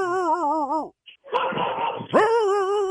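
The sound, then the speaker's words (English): A dog barks and yowls loudly, with drawn-out, wavering cries broken by a short, rough burst in the middle, then another long cry. “Can you stand closer to the dog?”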